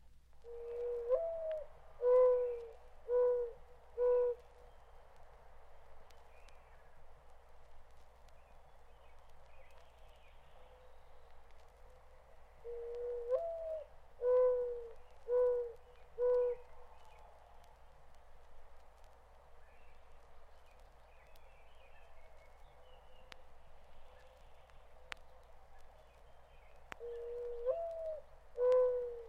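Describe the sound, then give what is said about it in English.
A mourning dove in a garden near a noisy road coos in repeated soft, hollow phrases, each a drawn-out note followed by a few lower pulses, recurring three times over a steady low rumble of road traffic. “Now the cooing notes of the familiar morning dove in a garden near a noisy road.”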